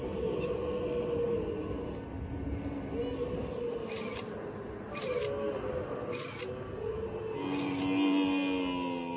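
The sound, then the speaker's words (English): Several camels arriving at Gelta Arche, a desert rock pool used by nomads and their camels, groan and bellow in overlapping, drawn-out moans that slide up and down in pitch, their voices echoing off rock walls in a steady chorus with no talking. “It's a world-class, beautiful place, and all the camels are coming in. You can hear their voices echoing off the walls.”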